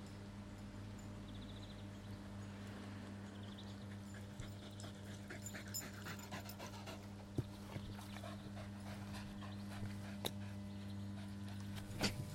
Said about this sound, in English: Oh, dog slobber. Oh well.